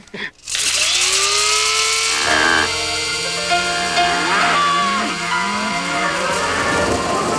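A battery-powered coffee grinder starts after a short click and whirs loudly and steadily, its motor pitch wavering and rising as the beans are ground, close up, for several seconds.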